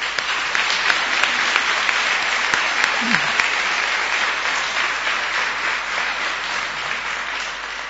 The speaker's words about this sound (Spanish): quiero hacer aquí un reconocimiento público a dos asociaciones que están haciendo una gran labor social, Adiscagua y AOES. Por eso pido un aplauso para ellos.